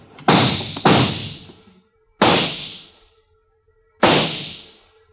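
gunshots

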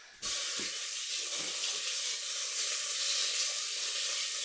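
pork belly sizzling

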